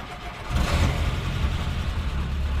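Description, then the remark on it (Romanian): A jeep engine kicks in after a brief pause and revs, settling into a steady, rough low rumble that stays fairly loud to the end, with no talking. “Jeepul e o mașină care seamănă cu regele.”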